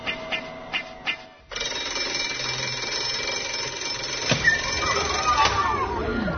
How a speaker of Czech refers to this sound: posljednje školsko zvono je kod tebe u devetoj gimnaziji zvonilo.